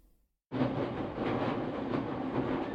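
After a brief silence, the steady roar of a crowded commuter train cuts in abruptly and carries on at an even, fairly loud level, a continuous rumble of a carriage running along the rails with no voices.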